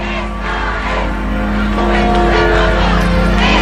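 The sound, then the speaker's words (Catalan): A large crowd at a papal event chants in unison 'esta es la juventud del papa' (this is the youth of the pope), a loud, continuous roar of many voices with rhythmic shouted phrases and whoops rising over a steady low rumble. “Ahir em feia gràcia perquè aquest cant d'esta és la joventut del papa.”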